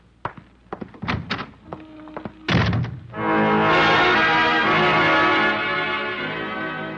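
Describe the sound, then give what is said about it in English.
A few quick footsteps and handling clicks, then a door shuts with a solid thunk as someone leaves, immediately followed by a sustained, swelling musical chord that holds to the end. “I can find the door.”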